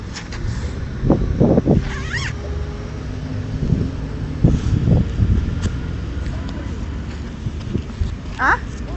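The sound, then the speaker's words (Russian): Two cars pass by outdoors with a steady low engine rumble and tyre noise rising and fading, along with scattered knocks, a couple of bird chirps and faint background voices. “Едут там две машины.”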